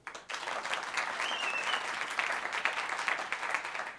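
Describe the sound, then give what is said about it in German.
A live-recording audience bursts into applause all at once on cue, as done after a trumpet solo, a dense, steady clatter of many hands clapping that holds for several seconds, with no voices over it. “Man muss nämlich dann immer nach dem Trompetensolo zum Beispiel, müssen alle auf einmal klatschen.”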